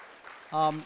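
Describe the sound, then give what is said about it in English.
A short, steady cheer from a voice rings out for about a third of a second over a faint wash of scattered clapping from an audience at a talk about the Awana ministry and the gospel, then fades back into the low crowd noise. “Yeah, it's okay to cheer that.”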